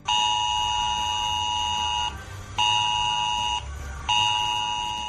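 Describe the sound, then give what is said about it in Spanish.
A loud, harsh electronic alarm tone from a mobile phone emergency alert, sent to phones near an emergency zone such as a fire, sounding in three long blasts separated by brief gaps, with a steady low rumble underneath and no talking. “Precisamente, si te encuentras cerca de una zona de acción, por ejemplo de un incendio, es probable que tu teléfono empiece a vibrar y oigas esto.”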